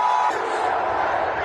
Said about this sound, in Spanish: Y allí se plantaron a las puertas del Congreso de los Estados Unidos. Y allí llegaba cada vez más gente. Y había además cada vez más gritos.